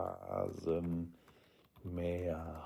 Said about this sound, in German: Rasenmäher-Hauptprogramm. Ach, könnte ich doch schneller tippen.